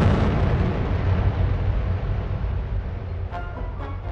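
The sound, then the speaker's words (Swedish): A deafening explosion fills the sound with a loud, deep, rumbling roar that lingers for several seconds and slowly fades, with a few faint crackles near the end and no voices. “Och sen hör du ju det här öronbedövande explosionen.”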